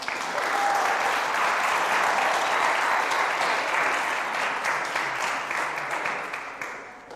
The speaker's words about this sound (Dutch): Zo, veel ouders, wauw. Zullen we ze even een applaus geven?